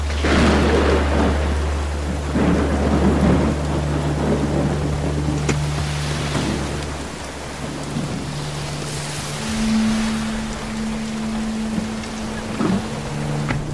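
Steady rain hisses throughout while deep thunder rumbles roll in and out, loud, over a low continuous hum, with no voices.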